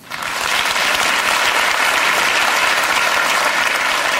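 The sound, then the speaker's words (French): An audience at a comedic parents' meeting claps steadily as those with children applaud, a dense, sustained wash of many hands that swells in within the first half second and holds at a loud, even level throughout, with no talking. “Alors applaudissez celles et ceux parmi vous qui ont des enfants.”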